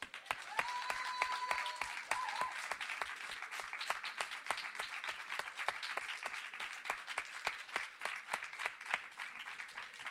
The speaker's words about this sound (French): Alors moi, je suis un vieil illustrateur et j'ai envie de me lever pour l'applaudir, en fait.